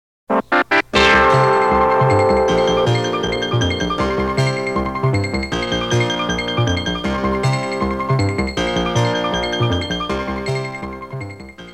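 A short CBS radio jingle used just before switching to a helicopter report: a few quick staccato hits lead into a bright, sustained musical fanfare with layered tones that carries on at a steady, loud level. No one speaks.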